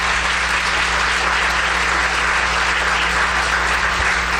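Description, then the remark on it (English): An audience applauds the speaker's deputy steadily, a dense wash of many hands clapping at a constant, fairly loud level with no pauses and no voices standing out. “Please clap for her, because she did so much work.”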